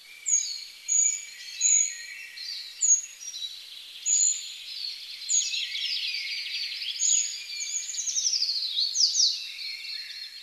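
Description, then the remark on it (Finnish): High, thin calls of a Eurasian treecreeper repeat in quick succession, sharp tseee notes with some trilling phrases, clear against a quiet background with no talking. “Niin se on kaikkein helpoin tuntea sitten tästä äänestä.”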